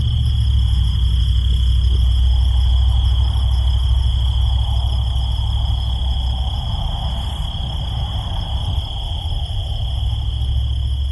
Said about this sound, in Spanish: Grillos en el desierto de Chihuahua.